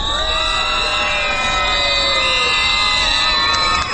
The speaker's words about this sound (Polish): Grupa liczy 43 pielgrzymów, a jak słyszymy, jest bardzo głośna.